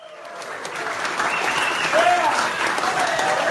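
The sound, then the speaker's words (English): Gold Coast Suns AFL teammates give a steady round of applause as Hoago Oya, a youngster from Port Moresby, PNG, is introduced to the senior group. The dense clapping builds slightly and holds loud throughout, with a few brief whistles rising above it. “Hoago Oya received a hearty round of applause from his Gold Coast teammates last month as the youngster from Port Moresby was introduced to the Suns senior group.”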